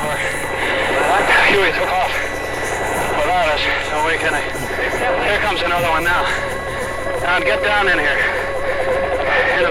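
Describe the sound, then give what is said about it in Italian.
A medevac helicopter on the South Vietnam front after a Viet Cong attack, in a live recording: steady rotor roar and engine drone fill the whole recording, loud, while voices talk continuously over the noise. “Una registrazione dal vivo del giornalista americano Richard Trelkeld, che sta aspettando un elicottero portaferiti sul fronte del Sud Vietnam dopo un attacco Vietcong.”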